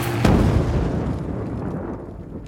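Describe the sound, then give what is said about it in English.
A truck bomb of 2,500 pounds of TNT, driven through a gate into a building's lobby, detonates with a sudden sharp blast, followed by a heavy, low rumbling roar that slowly fades over the next two seconds, with no voices. It leaves a smoldering crater 40 feet wide and 30 feet deep. “2,500 pounds of TNT leave behind a smoldering crater 40 feet wide, 30 feet deep, and hundreds of peacekeepers dead.”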